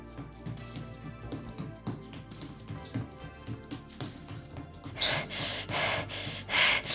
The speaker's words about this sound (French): Je cours, je suis essoufflée, j'en peux plus, mais je me dis qu'une fois arrivée, je serai bien récompensée.